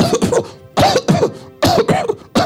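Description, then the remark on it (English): A voice imitates a sick sheep's cough, producing three loud, raspy bleating coughs in a steady rhythm, each a harsh burst with a throaty, bleat-like tone, clear with short pauses between them. “Have you ever heard a coughing sheep?”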